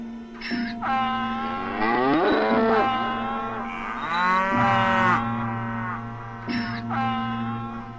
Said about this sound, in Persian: این خر و گاو و گوسفندها که در سمت راست ما قرار دارند بسیار عجیبند. گویی انسانهایی هستند که به این شکل در آمدند، مانند آن بوزینه‌ها که دیدیم.